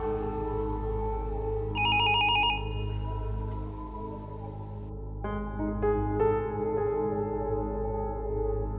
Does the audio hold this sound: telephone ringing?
yes